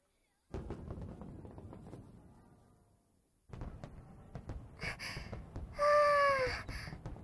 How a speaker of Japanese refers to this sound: お兄さん、こっちです。こっち、花火始まっちゃいます。